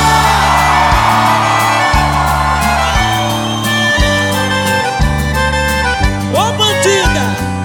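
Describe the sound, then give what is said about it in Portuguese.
A large concert crowd shouts and whoops in response to the singer's call for those in love to shout, over loud, steady live music with a pounding bass line, the cheering swelling into rising yells near the end. “Quem tá apaixonado dá um grito.”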